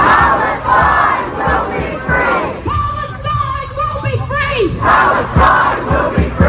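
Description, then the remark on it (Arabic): A large crowd at a demonstration in Australian cities in solidarity with Gaza and against the Israeli offensive chants and shouts in loud, rhythmic bursts, with many voices rising together, a brief stretch of sustained pitched shouting in the middle, then renewed collective yelling. “أمواج بشرية خرجت في مدن أستراليا تضامنا مع غزة ورفضا للعدوان الإسرائيلي”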